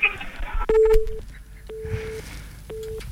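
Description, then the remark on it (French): A telephone line drops as a call ends, with repeated steady beeps, three evenly spaced tones after a click, clear, with faint background noise underneath. “Et ouais, on entend le téléphone, et bah ça veut dire que c'est fini.”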